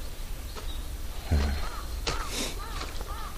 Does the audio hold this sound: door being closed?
no